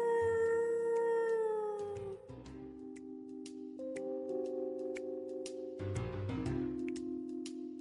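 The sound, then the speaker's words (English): A long, wavering howl with a sliding pitch that drops and then holds steady in drawn-out tones, fairly loud, with no one talking; it is Stanley howling at the moon late at night. “"He's howling at the moon."”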